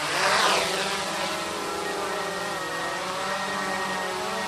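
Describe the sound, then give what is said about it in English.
A drone sent up to take video hums with a steady, high-pitched whine, its buzzing rotors holding a constant pitch with a slight swell at the start and no voices present. “He sends up a drone to take video.”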